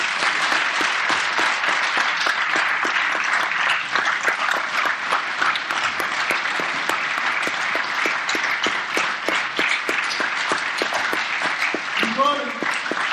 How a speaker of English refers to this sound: Would you stand? Come on, church, let's cheer them all.